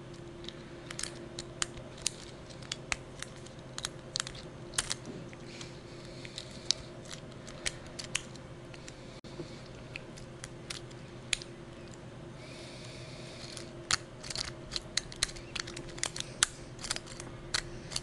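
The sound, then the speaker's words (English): A lock being single-pin picked: a long run of small, crisp metallic clicks and crunchy scrapes, irregular and bunched, over a steady low hum, with no talking. “You actually hear that being quite crunchy in there.”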